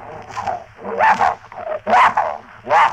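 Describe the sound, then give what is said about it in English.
A bloodhound named Prince barks in a steady series of four deep, drawn-out woofs, roughly a second apart, each loud and full with short gaps of quiet between them. “That's a nice name, and you're a bloodhound, are you?”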